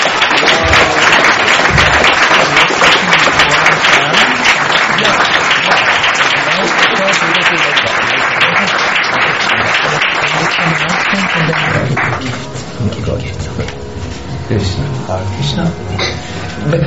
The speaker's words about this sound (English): May I ask that, because we are amongst us, was this just a dutiful applause or? No. You could appreciate.